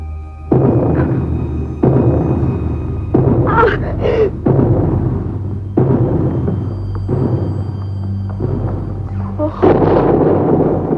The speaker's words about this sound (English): Well, why should they be knocking on the walls? Well, something is. Anyway, it's only a noise.